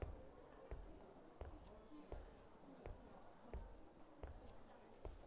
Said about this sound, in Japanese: 右、左、右、左と小気味よく足を進ませる。足音を聞いていると、とてもリラックスした気持ちになってきます。